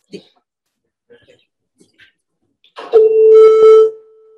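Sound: tuning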